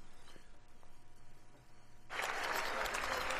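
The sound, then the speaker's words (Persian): Clapping in the US Congress chamber as President Donald Trump enters and shakes hands with people on both sides of his path. After about two seconds of low, quiet background, a dense burst of crowd applause breaks in abruptly and carries on steadily and loudly until the end. “بله شما دا عزیزان، چنان که شما صدای کف زدن ها را مشنوین، این لحظه است که رئیس جمهور ترامپ وارد مجلس شده و با افرادی که در دو طرف مسیر راهش است مصافحه و احوال پرسی میکنه، امرو از اونا دست میتر.”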